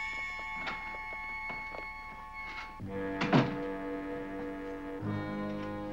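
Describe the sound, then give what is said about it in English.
A soldier locks the laboratory door of a headquarters building shut with one solid, low thunk midway through, set against a steady electronic hum that shifts in pitch and swells briefly with faint clicks. “A soldier comes out of the lab, locking the door behind him.”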